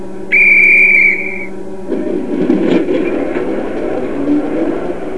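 A loud, steady high-pitched train whistle blows for about a second, then gives way to a low rumbling, clattering mechanical noise as the train gets moving.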